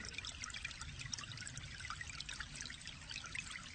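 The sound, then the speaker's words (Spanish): Water trickles and pours in a steady, continuous stream, a soft bubbly splashing with a low rumble beneath it, holding an even level throughout with no voices. “Imagínate que en la habitación empieza a brotar agua templada.”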